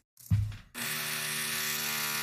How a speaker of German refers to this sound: Ich weiß nicht, ob man das auf meiner Spur hören kann. Hier bohrt immer mal irgend so ein Volltrottel abends. Warum auch immer jetzt gerade. War die ganze Zeit nicht.